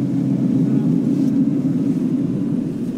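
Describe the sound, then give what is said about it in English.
A small plane bouncing down softly on a gravel landing strip at Tin City, a military installation, heard as a steady, loud, low engine rumble that drones on evenly without pause from start to finish. “The plane bounces down softly on a gravel landing strip.”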